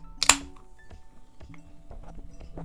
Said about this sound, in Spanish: Y necesito abrir la Coca-Cola y no sé por qué me dijo que quiero abrir la Coca-Cola al micrófono. Así que aquí va.